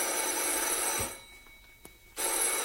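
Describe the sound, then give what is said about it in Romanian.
A telephone rings in two loud, buzzing bursts separated by a quiet pause of about a second, with a faint click in the gap; no one speaks. “Nu răspunzi?”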